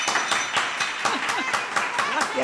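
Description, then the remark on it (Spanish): Children clap in a steady, fairly quick rhythm while high voices shout and cheer over the top, a lively, loud burst of noise throughout. “¡Aplaudir, chicos! ¡Hacer ruido!”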